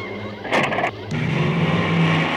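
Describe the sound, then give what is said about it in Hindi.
A car engine starts up and pulls away, a brief burst of noise followed by a steady low rumble that holds fairly loud, with no voices. “हट, सब अच्छा होता. चलो गाड़ी चलाओ.”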